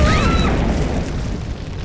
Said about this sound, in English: It would seem that an explosion has just ruptured the studio wall behind us, bathing the set in flames.